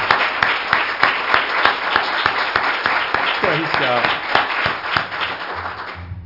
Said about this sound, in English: But we just want to give the Lord a hand clap of praise now for His word, His message.